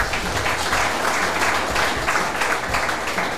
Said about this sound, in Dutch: Ik zal eerst even voorstellen, want ik doe dat niet alleen. Links van mij hier oud wielerprof en daar mag wel een applausje.